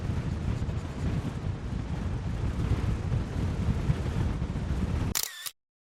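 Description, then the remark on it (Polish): Strong wind roars and buffets the microphone for about five seconds outdoors beside a bird nest box on an oak tree, the box swaying a little, a heavy, gusty rumble, before a brief mechanical click cuts it off into silence. “Trochę ją gibie na tym silnym wietrze, ale to nic.”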